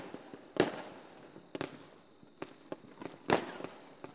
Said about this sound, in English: And we just sat there and it was 4th of July. We watched the fireworks together in the distance.